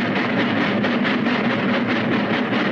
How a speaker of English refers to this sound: And he looks up at the departing train as it leaves the station.